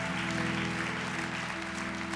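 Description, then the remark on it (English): An audience at a church service applauds steadily and loudly, a dense, continuous wash of clapping that holds at an even level throughout, with sustained musical tones playing softly underneath. “Give a big hand clap again.”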